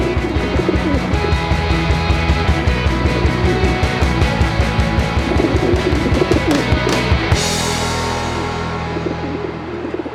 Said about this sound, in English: It's a domesticated rock dove. So it's all one species? It's one species.